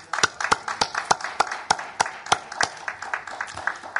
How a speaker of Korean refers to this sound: 우리 만민에서 함께 크게 하나님께 영광의 박수를 드립니다.